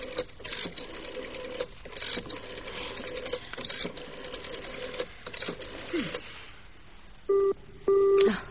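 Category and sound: signal or alarm, telephone busy signal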